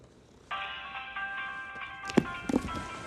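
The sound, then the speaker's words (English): A phone's quiz alarm starts suddenly and plays steadily as a bright, chiming electronic tune. A couple of short knocks or clicks sound over it near the end. “Do you have a quiz alarm on your phone?”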